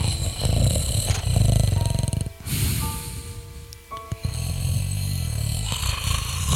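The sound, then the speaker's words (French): A wild boar snores in deep, rough, rumbling breaths, one long rasp, a brief pause, then another grinding snore, loud and with no voices over it. “D'ailleurs, écoutez bien, on l'entend dans le fond. Ah ouais, il ronfle.”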